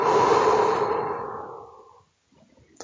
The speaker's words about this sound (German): Tief einatmen. Ausatmen.